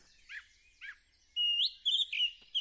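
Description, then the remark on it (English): Clear song of a song thrush outdoors: two short bright chirped notes, then a run of loud, sustained whistled phrases with sharp trills, with no other sounds around them. “if you didn't recognise it, is the song of the song thrush. And for me, one of the most beautiful songs that you can hear at this time of year.”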